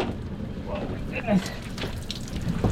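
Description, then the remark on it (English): Water drips and splashes in scattered, irregular drops from a heavy harvested branch coated with eggs as it is hoisted into a boat, over a steady wash of background noise, with faint indistinct voices in the mix. “hoists the dripping branch into the boat.”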